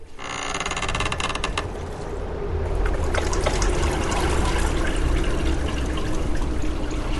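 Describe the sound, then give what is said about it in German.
Floodwater pours and trickles in through a house door that has just been opened, a continuous rushing, splashing flow that holds fairly loud throughout with no voices over it. “Und dann machte mein Vater die Tür auf und dann kam das Wasser schon rein.”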